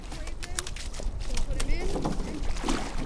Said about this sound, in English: sits in the rear of a two-person rowing shell, pulling her oars as her boat speeds along the Charles River. A coach calls out to her from a motorboat that's keeping pace.